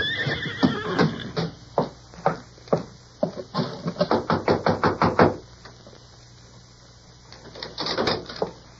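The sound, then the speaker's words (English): A horse whinnies, followed by a quick run of loud, rhythmic hoofbeats that stop abruptly, then after a brief quiet stretch a few more hoof clops return. “Now, you ride ahead and ask if we can water our horses.”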